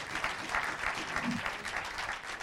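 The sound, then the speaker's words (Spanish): An audience applauds for Christ steadily, a dense wash of many hands clapping at an even, sustained level with no pauses, with faint murmurs mixed in. “Yo creo que Cristo se merece un fuerte aplauso.”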